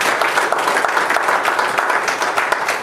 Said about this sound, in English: Everybody give the Lord a hand of applause.